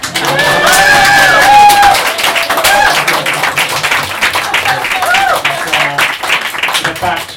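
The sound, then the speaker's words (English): A crowd claps together in time, in a loud, steady stream of sharp hand claps that carries on throughout, with voices calling out over the clapping. “In time, we all clap equally.”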